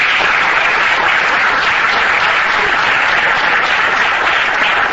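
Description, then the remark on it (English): Steady, loud applause from an audience for a speaker after a question session, a dense wash of many hands clapping at once that holds evenly for the whole stretch without fading or breaking, with no voices standing out. “I'm sorry if you don't have time for any more, but let's just give Chan another round of applause.”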